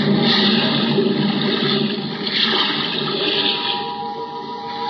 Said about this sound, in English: Now, hoist you up and overboard and dive with your equipment well in hand into the sea and under it.